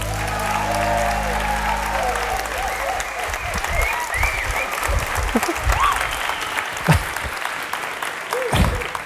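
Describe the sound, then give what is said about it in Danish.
A studio audience at a Danish broadcast, seated in a large hall called Badekarret, claps steadily for several seconds, a dense wash of many hands with a few brief whoops and cheers rising over the applause. “Som I kan høre, så er der tilskuere til dagens udsendelse.”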